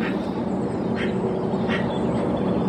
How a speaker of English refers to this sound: Followed by that wonderful bird song from Quentin Howard's garden.